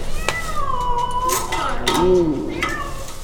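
A distressed cat, accidentally trapped during a nighttime raccoon-trapping project, yowls in long, wavering cries that rise and fall, fairly loud, with a few sharp metallic clicks scattered between the calls.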